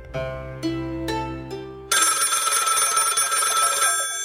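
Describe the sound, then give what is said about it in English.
A phone rings with a melodic electronic ringtone: four quick tonal notes, then a bright, sustained buzzy trill that carries on loudly to the end, with no one speaking. “Phone rings.”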